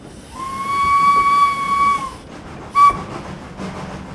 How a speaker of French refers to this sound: Parce que le sifflet qu'on entendait au loin, finalement, c'était un peu comme la cloche de l'église, quoi. Ça faisait l'heure.